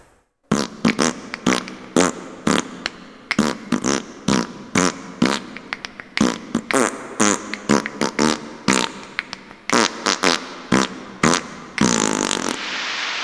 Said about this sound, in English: I will now do a song from a new album, …. The song is called ….